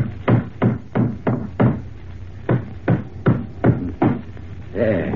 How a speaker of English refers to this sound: All right, I'll put the floorboard back in place now. I'll hammer these nails in, and that'll be sound again.